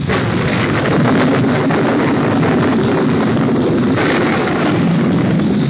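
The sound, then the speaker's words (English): Loud, continuous thunder from a storm overhead: a deep, heavy rumble with a crackling, roaring texture that holds steady for several seconds without letting up. No voices. “Listen to that thunder. It seems to be staying close to us, too. Storm must be right over our heads.”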